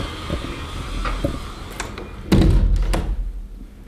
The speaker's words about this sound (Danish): Jeg tror lige, jeg lukker vinduet.